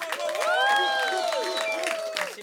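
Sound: audience applause and clapping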